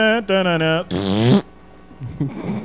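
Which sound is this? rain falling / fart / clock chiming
fart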